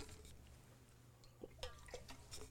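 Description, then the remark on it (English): Water being poured into a cup: a few soft, quiet splashes and drips come in short bursts over a low, steady background hum, with no one talking. “While y'all turn there, get some water.”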